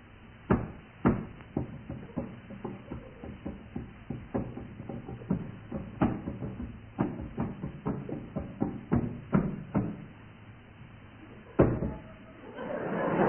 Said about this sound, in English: Colin Sell will play a tune on the dummy keyboard, and the teams will try to work out what it is. Listen carefully, teams. Colin, away you go.